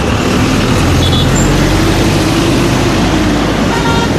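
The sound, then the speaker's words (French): Dense, steady traffic noise of a traffic jam in Kinshasa with a low engine rumble filling the background, punctuated by a couple of brief car horn toots, heard from inside a taxi with no one speaking. “Vraiment, il y a de l'embouteillage, je comprends pas pourquoi.”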